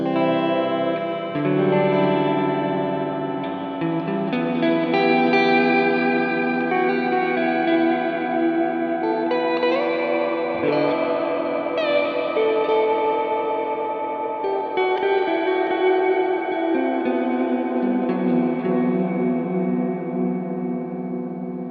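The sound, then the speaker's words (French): Guitar chords played through the shimmer reverb of an Otone Skyline pedal, switched on with its middle button, adding a reverberated octave above and forming a lush, sustained wash in the highs that sounds almost like a keyboard pad, with no talking. “Donc, c'est ce petit bouton au milieu qui, quand je l'appuie, rajoute au son l'octave supérieure réverbérée. On entend dans l'aigu vraiment plus cet effet nappeux, limite clavier.”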